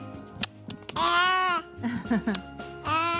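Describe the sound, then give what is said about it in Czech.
A one-year-old baby boy, asked to sing at Christmas time, babbles in a few high-pitched, sing-song bursts, with one longer drawn-out squeal in the middle and short pauses between the sounds. “Zaspíváš? Zaspívej něco.”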